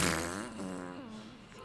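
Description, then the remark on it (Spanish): A long, wavering fart lasting nearly two seconds, its buzzy pitch sliding up and down with a steady, fairly loud rasp throughout and no talking over it. “Está embarrando ahí el pinche pedorro, güey.”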